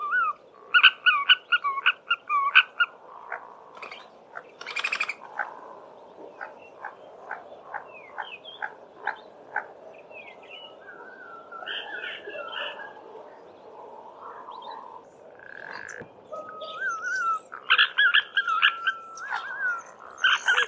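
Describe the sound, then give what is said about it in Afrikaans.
An African green pigeon calling: a varied run of fluting whistles, quick clicking notes and croaky, rattling phrases, clear, with no voices, continuing for about twenty seconds. “Nou, die papegaai duif kom voor in Zimbabwe en in die noordelike en die oostelike dele van Botswana en ook in die noordelike dele van Namibië en ook in Mosambiek.”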